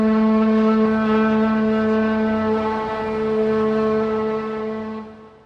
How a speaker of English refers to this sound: Scotia is one of the last company towns in America. A typical bumper sticker reads, "Earth first. We'll log the other planets later." Pacific Lumber still owns every building here and whistles its employees to work three times a day.